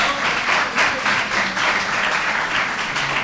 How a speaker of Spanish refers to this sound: Sí, espera, ahora arrancamos el aplauso. Había algún aplauso tímido. Ahora sí, un aplauso para Gaspar.